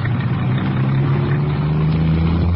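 A used convertible car's engine runs loudly, a steady deep rumble with a faint rise in pitch, as if revving before pulling away. No voices.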